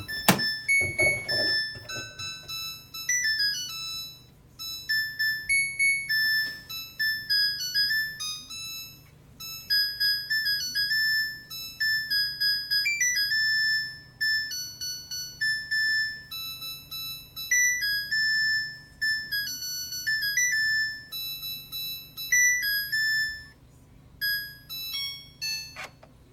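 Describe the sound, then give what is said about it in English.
A new Samsung washing machine plays its jingle, a bright electronic melody of clean, beeping tones that steps up and down in a cheerful tune for over twenty seconds, with a soft hum underneath. “We just got a new Samsung washing machine, and it's going to do the Samsung song.”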